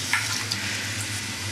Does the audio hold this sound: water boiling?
yes